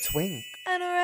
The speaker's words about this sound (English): All right, so what you just heard was a transition. That means we're going to the next stage of our podcast.